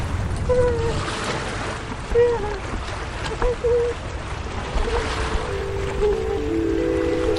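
A steady, fairly loud wash of sea waves along the shore below a stone wall by a narrow seaside road, with wind rushing through and a few brief tonal calls or whistles rising over the surf.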